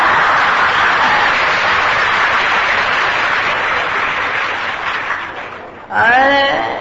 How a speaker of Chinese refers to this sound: 这鼓掌这么大声，可能新加坡的男人都这样子了。